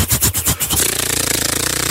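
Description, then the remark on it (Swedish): Someone mimics machine gun fire with their voice: a few harsh, choppy bursts give way to a fast, unbroken rattling stutter, loud and buzzy, with no words spoken. “Var det någon som sa på TikTok att tjejer inte kan göra kulsprut i ljud?”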